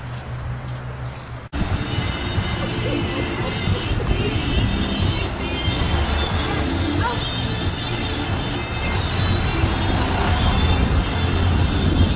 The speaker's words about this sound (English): The reason I bring you on this corner here is to show you all these cars that you see driving by, people passing by this cemetery here today.